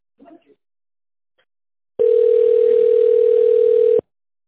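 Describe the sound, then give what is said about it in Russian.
A telephone ringback tone while waiting for an operator on a call to the company Stronet: one loud, steady, mid-pitched electronic beep held for about two seconds, preceded by a faint brief murmur and quiet. “Если вы знаете внутренний номер сотрудника, пожалуйста, наберите его в тоновом режиме или дождитесь ответа оператора.”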